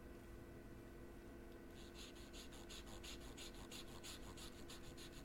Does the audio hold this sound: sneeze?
no